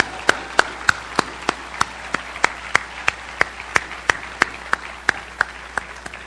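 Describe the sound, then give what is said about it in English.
An audience at a conference applauds steadily, a dense crackle of many hands with one sharp, evenly paced clap standing out about three times a second. No one speaks over it. “That is an applause line.”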